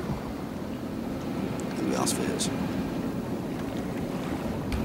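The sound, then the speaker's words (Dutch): Steady wind rushes over a sailing ship at sea, swelling slightly midway as the sails fill, with a few brief high creaks and flutters against a constant low roar of water. “En net na deze woorden komt er wind in de zeilen en het tijdje later begint het te regenen.”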